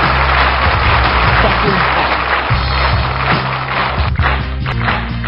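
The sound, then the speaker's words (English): A loud, dense crowd roar of cheering and clapping, used as a sound effect, that holds steady for about five seconds, with a low humming drone underneath. “Fucking sound effects. Still way too loud.”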